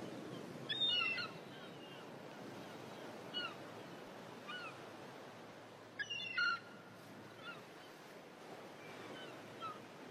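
seagull calls

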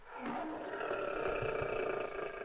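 lion roaring

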